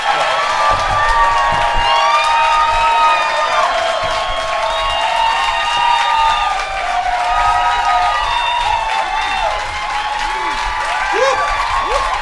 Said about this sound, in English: Oh, man. I love fake applause.